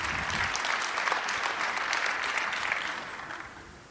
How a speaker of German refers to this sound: Ich freue mich auf Fragen. Dein Applaus. Vielen Dank.